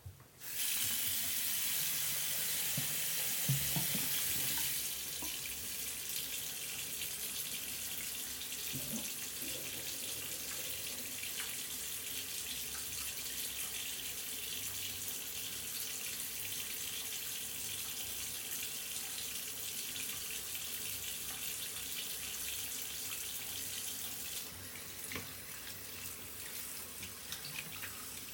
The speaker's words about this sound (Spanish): Ahora sal de donde estás y dirígete al lavabo y abre el grifo. Vas a mantener tus manos debajo del grifo durante 30 segundos. Procura que las muñecas también se mojen.